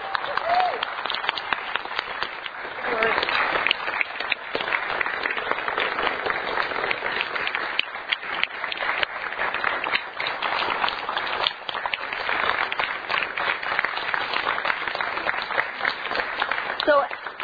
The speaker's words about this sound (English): And as we often do, it is certainly appropriate to express your appreciation and support through this thing called applause.